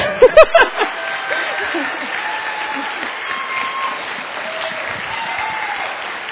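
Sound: audience clapping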